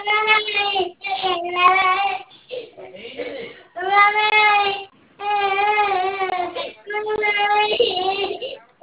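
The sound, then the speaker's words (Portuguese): A baby cries loudly in long, wailing bursts with brief breaths between them, the harmonic wails rising and falling over several seconds. “Desculpa pela zoada, tá me chorando hoje.”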